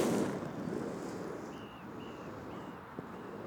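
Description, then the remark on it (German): Outdoor skatepark ambience with children around: a steady, rough rumble of wheels rolling over concrete from scooters, a bicycle and roller skates, with a few faint high squeaks and a soft knock near the end. “Wir hören Roller, ein Fahrrad und Rollschuhe.”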